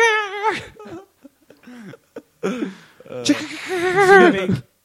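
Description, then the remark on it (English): A person imitates a rooster crowing, giving a short rising call, a few broken vocal bursts, then a longer, louder strained crow that wavers in pitch before cutting off. “Here's what roosters sound like.”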